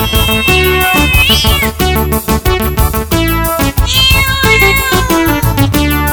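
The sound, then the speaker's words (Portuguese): A couple of drawn-out meows from a female cat ring out over loud, upbeat band music with steady bass and rhythm, the meows rising and falling in pitch near the start and middle. “Rapaz, eu tava enganado que o gato, mas é uma gata. E essa gata tá me dando prejuízo.”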